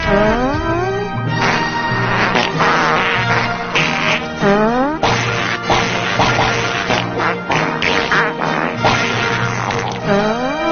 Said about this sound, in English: Yeah, I mean, for example, this is how people used to entertain themselves back in the 1920s. They would actually fart a whole song.